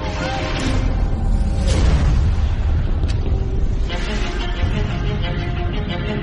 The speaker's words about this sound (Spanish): Era el 10 de febrero de 1896, cuando sobre las 9:30 horas de la mañana se produce un gran resplandor en el cielo. Súbitamente unos violentos estampidos alteran aquella rutina diaria en la capital del Reino de España.